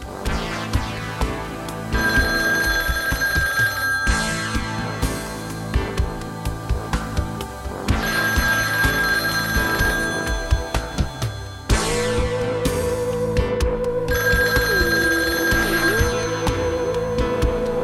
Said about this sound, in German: Pausenlos klingelte das Telefon, doch immer ging es um andere Autos.